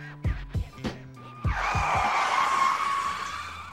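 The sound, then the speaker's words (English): A few quick percussive hits give way to a long, loud screech of car brakes, a harsh, sustained squeal that holds steady for a couple of seconds before easing slightly. “hit the brakes, Reg, please.”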